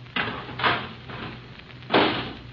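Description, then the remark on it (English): A garbage can lid clatters into place in three knocks, two close together and a third after a pause, over a low steady hum with no voices. “Okay, put the lid on.”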